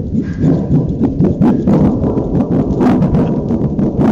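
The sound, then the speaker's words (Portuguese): A metal thunder sheet, a sound-effect piece used for radio theatre, is shaken to reproduce thunder, giving a loud, continuous low rumble broken by sharp, irregular rattling crashes for about four seconds, with no voices. “Que reproduz a trovoada na perfeição.”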